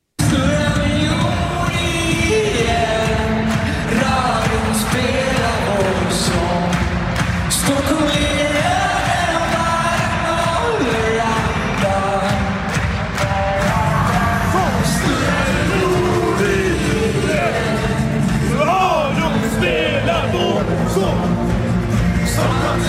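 A large crowd at a band's last concert, held yesterday, cheers and yells continuously, with shouts and whoops rising over a dense roar of voices and scattered bangs, loud throughout.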